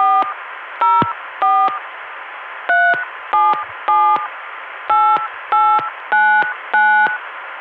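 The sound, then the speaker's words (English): Ten touch-tone beeps dial the caller's own phone number at an uneven pace, each short dual-tone burst clear and loud over a steady hiss of a telephone line carrying the Atlanta dial tone via Columbia. “Now my own number.”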